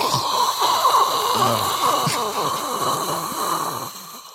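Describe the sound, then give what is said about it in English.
A voice imitates a toilet flush with a loud, continuous rushing, gurgling hiss lasting about four seconds, then tapering off abruptly. No words are spoken. “Excuse me while I clear my throat and get a big flush.”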